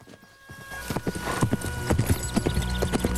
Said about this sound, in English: The grey-haired man, Samuel DeRose, picks up a twig from the ground and fiddles with it as Willie halts his horse in front of him.